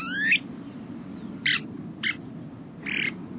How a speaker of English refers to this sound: A male snowy plover announces his presence.